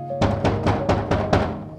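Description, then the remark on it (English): Knocking on a door late on a cold night: six firm, evenly spaced knocks in quick succession, each a dull thudding rap, with no voices. “And then the knocking began.”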